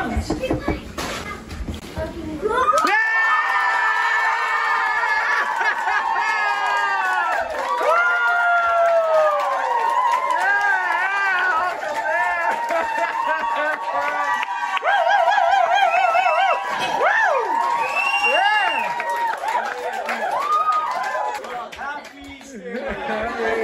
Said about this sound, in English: people cheering, seeing Uncle Dan walk through those doors and celebrate him and his priesthood